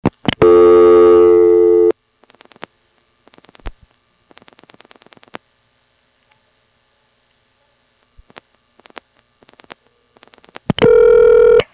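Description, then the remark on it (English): A telephone number being dialed on an old exchange: a steady buzzing tone, then several bursts of rapid mechanical clicks separated by quiet gaps, and the tone returns at the end. “very quiet while you were dialing a phone number”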